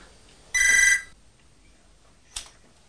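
A loud, shrill telephone bell rings once for about half a second, a call from Daddy, followed by a shorter, fainter ring burst a moment later, with quiet background and no talking.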